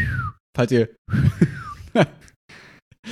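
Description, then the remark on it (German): A person attempts a whistle: a few short, breathy whistled tones that slide downward in pitch, interrupted by airy breaths and brief voiced sounds. “Ich kann nicht so gut pfeifen.”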